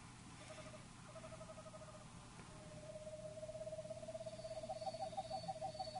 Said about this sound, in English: That's Pacific screech owl.